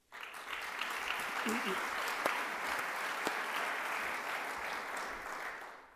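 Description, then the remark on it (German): Sustained applause from a crowd at the Innovation Night event, thanking the Innovation Night team: a steady dense clatter of many hands clapping for about six seconds, fairly loud and even throughout, with a brief murmur of voices underneath. “Ich glaube, das hat sich einen Applaus verdient.”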